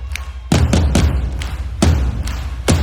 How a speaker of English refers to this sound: But I'm gonna need you to clap your hands. Y'all ready? Like this.